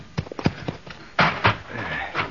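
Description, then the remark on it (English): Irregular hoofbeats of a cowboy's horse clop on hard ground, a quick cluster of light knocks followed by a few heavier, louder thuds, with no voices. “You catch his horse, Little Beaver.”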